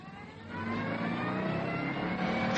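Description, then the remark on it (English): A sports car engine revs, a steady mid-pitched growl that briefly dips and then climbs in pitch and loudness as the throttle opens, with no voices present. “I got behind the wheel as Holly vaulted beside me.”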